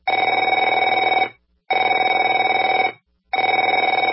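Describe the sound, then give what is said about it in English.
A telephone rings in three long bursts, each a rapid, buzzing bell trill lasting over a second, separated by short silences. The ringing is loud and steady, with no voices. “Afraid to answer it?”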